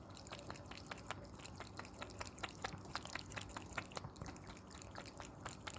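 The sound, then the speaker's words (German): Mogli, a cat, laps water from its drinking fountain (water dispenser) in a kitchen, a fast, steady run of small wet clicks over the constant trickle of flowing water, with no talking. “Kannst du mal kurz aufnehmen, wie der Mogli Wasser schlägt?”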